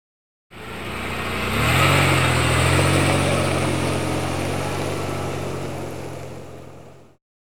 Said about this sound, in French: I can hear a car. J'entends une voiture.